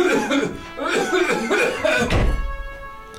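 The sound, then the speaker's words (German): Loud bursts of coughing, several rough, throaty hacks in quick succession, ending with a low muffled thump as the coughing dies away. “Ich gehe mal ganz kurz husten, ja?”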